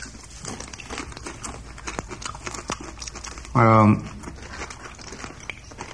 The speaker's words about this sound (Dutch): Kan ik even een hapje nemen?